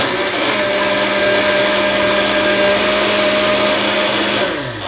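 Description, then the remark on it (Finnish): A loud blender making a smoothie whirs steadily for several seconds, a dense, grinding motor roar with a sustained hum, then winds down slightly at the end. No voices. “Tämä tässä oli Blenderin ääni. Blenderin, jolla Jarin kanssa tehtiin smoothieta.”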